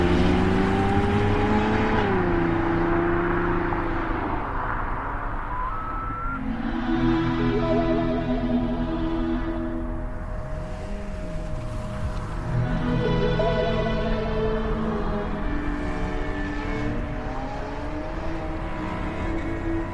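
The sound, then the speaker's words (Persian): A car drives steadily along a road, its engine humming and shifting pitch as it speeds up and slows, with tire and road noise filling the background throughout. “رامین و سروش با ماشین میرن.”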